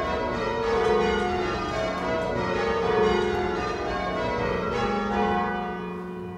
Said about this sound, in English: I thought you were hitting the bells at the back a bit